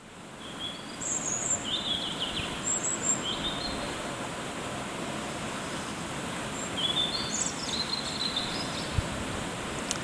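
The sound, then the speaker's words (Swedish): A European robin sings at night in a spruce tree outside, thin, high, warbling phrases in two short bursts, over a constant rushing background noise. “Det här är en rödhake.”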